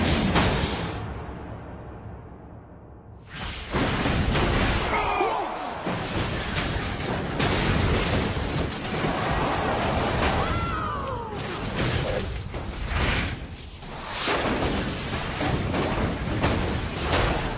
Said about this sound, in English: A lot of big crashes at Talladega, but this is the longest one I've ever seen.